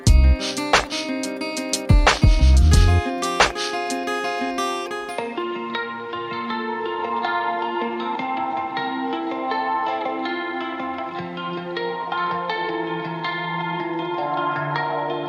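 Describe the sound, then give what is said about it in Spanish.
Loud, punchy beats give way to sustained, smeared music washed in heavy echo and reverb, the tones trailing and repeating into a dense, lingering haze. No voices. “Eco, eco.”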